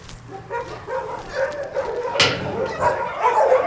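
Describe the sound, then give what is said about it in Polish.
A dog that was injured in an accident, with paralyzed hind legs from spinal damage and using a wheelchair, barks repeatedly, mixing deeper woofs with higher yips in a busy, continuous stretch, with one sharper, louder bark partway through. “Tutaj mamy pieska, który jest po wypadku, bo tak jak widać tył ma niewładny, poprzez uszkodzenie kręgosłupa na wózku sobie jeździ.”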